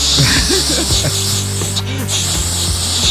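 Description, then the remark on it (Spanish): Someone imitates a calming spray for a dog with a steady hissing breath held for about three seconds, a low murmur of voice running faintly underneath. “Me dijeron que le comprara el spray para relajarla.”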